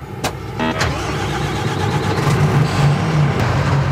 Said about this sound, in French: on va le mettre en marche pour que vous vous rendiez compte la différence du bruit d'un véhicule diesel et un véhicule gaz